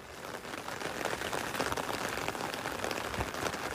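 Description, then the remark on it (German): Steady rain pattering down outdoors at a football team's first training session before 600 fans in Gettorf, near Kiel, Germany, on 1 July 2024, a continuous dense hiss of drops hitting surfaces at even, moderate loudness with no voices standing out. “Trainingsauftakt im Regen vor 600 Fans in Gettorf, einer Gemeinde im Kieler Umland.”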